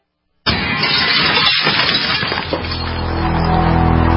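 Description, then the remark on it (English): Glass smashes with a sudden loud crash during a smash-and-grab burglary break-in, followed by a couple of seconds of crackling, splintering debris that gives way to a steady low hum. No one speaks. “Burglars call it smash and grab.”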